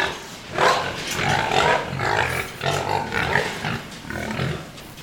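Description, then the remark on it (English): Several growing pigs, twelve to a pen in a 100-by-34-foot hog house, grunt and snuffle, a steady, busy mix of low grunts and chewing noises as they eat feed that has hit the floor, with no talking. “See how quiet they got? Because everybody's eating. That's why you watch the floor there. Once that feed hits the floor, they get quiet.”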